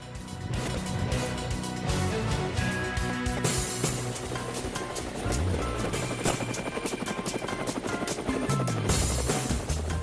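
A helicopter thunders overhead, its rotor blades chopping in a fast, steady rhythm that stays loud and unbroken for about ten seconds, with no voices.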